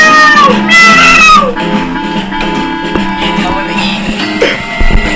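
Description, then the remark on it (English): A loud, drawn-out cat meow rings out at the start, followed by a softer, shorter meow a few seconds later, over a steady tonal hum in the background. “Meow, cats are enemies of birds.”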